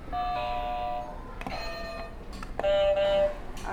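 Two electronic game buzzer tones as a buzzer button is pressed, each a steady harmonic-rich beep lasting about a second, separated by a short pause with some clicks and rustling between them.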